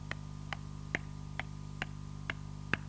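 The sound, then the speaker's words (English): A clock ticks steadily, seven crisp ticks spaced about every half second over a low, constant hum, moderately quiet with no voices. “That's her biological clock ticking away.”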